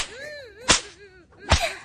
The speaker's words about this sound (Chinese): 被鞭子抽打皮肤，就像摸了世间最烈的春药一样，而且还可以激发出身体最原始的欲望。越是淫荡的人啊，被抽中以后感觉最强烈的。